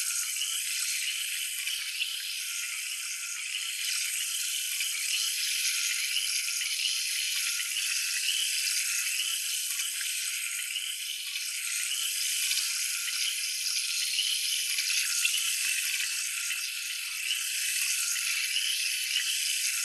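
A steady, hissing spray of carbonated spring water from a shower runs continuously, with a bright fizzing texture and soft splashing as it rinses loosened dirt out of hair, no voices present.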